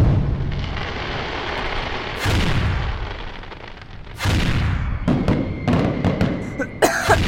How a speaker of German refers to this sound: Rakete um Rakete schraubt sich in den vernebelten Himmel über dem Schanzerkopf. Die Explosionen der vielen Feuerwerke tauchen den Hügel und das Gebäude in einen glitzernden roten Schein. Der Schanzerkopf scheint zu glühen.